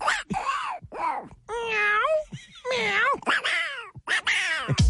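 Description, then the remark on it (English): A man in an office imitates a cat talking like a duck, in the manner of Donald Duck, making a run of loud, warbling meow-like calls, some drawn out and wavering, others short and clipped, with brief gaps between them. “Guy in the office that talks like a cat talking with a duck.”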